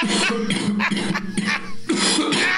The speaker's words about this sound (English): Now, if you will excuse me, I have a wet hacking cough to deliver on the air.